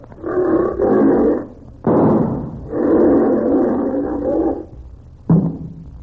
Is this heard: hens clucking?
no